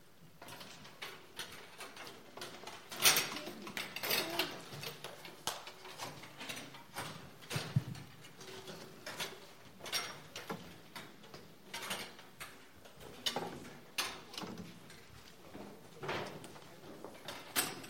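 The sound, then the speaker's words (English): Chairs are being stacked, the first row of chairs stacked into the second row: a steady run of irregular metallic clunks, scrapes and rattles, with no one speaking over them. “I want us to stack the first row of chairs. Just stack them into the second row of chairs.”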